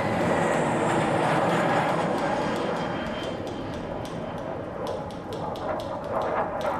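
A loud, steady roar of airplane engines as the army's own planes fly over the city, a broad rumbling drone that holds constant and slowly eases slightly, with a faint rhythmic clatter toward the end.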